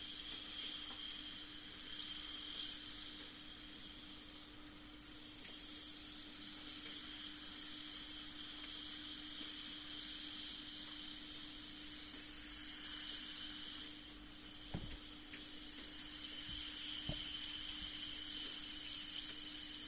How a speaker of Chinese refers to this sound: 我们再放一片泡腾片吧。